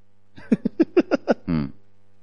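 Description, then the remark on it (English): A voice imitates a frog's croak, as people do when about to pray for others: six quick, throaty ribbits in a steady rhythm, ending in a longer raspy croak, fairly loud with no words spoken. “As they are going to pray for people, they act like a frog like that.”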